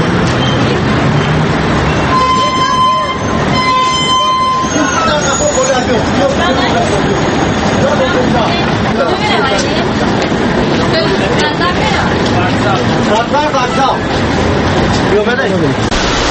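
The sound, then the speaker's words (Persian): Crowded city bus interior with a constant hubbub of overlapping passenger chatter over a low engine rumble, steady throughout, with a few brief tonal beeps early on. “ما طور میبینیم در همین داخل همین اتوبوس تقریبا در دست یکون نفر کتاب نیست.”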